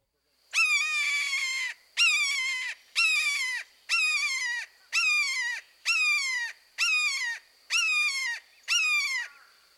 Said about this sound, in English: Next, the shorter, two-syllable keer, keer, keer call of the red-shouldered hawk.